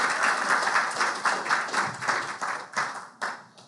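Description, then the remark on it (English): An audience claps along in a steady rhythmic beat, many hands striking together in loud, bright bursts that gradually thin out and fade toward the end. “We can clap. Thank you for that.”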